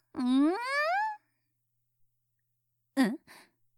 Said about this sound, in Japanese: ん？うん？何今の音？もしかして、くっさー！あんた、おならしたでしょ？何よこの匂い！最低！